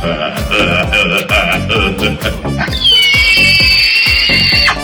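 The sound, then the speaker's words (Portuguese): A pig squeals loudly: a run of short, shrill cries, then one long piercing squeal that holds steady for about two seconds. No one speaks. “Olha o porco!”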